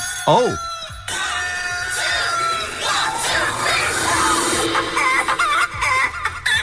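A dense chorus of chickens clucking and squawking over one another, loud and continuous, with a brief sharp squawk at the very start.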